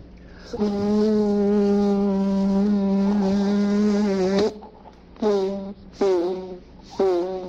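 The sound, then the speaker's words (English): A voice mimics a mosquito's whine as done for a mosquito role in the Columbia CBS series The Man Behind the Gun, in a trilogy on Guadalcanal: a loud, sustained nasal buzz for about four seconds, then three short buzzing bursts that dip and waver in pitch. “He was hired to play a mosquito on a big Columbia CBS series called The Man Behind the Gun.”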